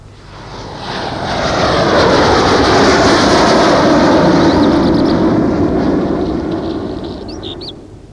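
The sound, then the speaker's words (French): Airplanes roar overhead, sent to drop blood rather than water on fields of carnivorous wheat. The engine drone swells to a loud, sustained peak before slowly fading away. No voices are heard. “Pour diminuer cette voracité, on envoie des avions, pas pour jeter de l'eau, mais du sang.”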